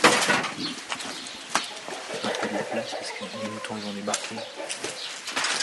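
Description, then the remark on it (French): Several hens cluck busily inside a hard-walled house they share with sheep, with bursts of wing flapping and scuffling throughout, a lively barnyard racket with a few higher squawks mixed in. “Donc là, c'est tout le monde dans la même, même maison. Oui. Les poules et les moutons.”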